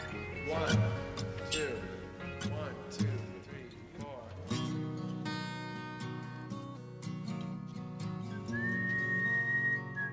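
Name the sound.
whistling melody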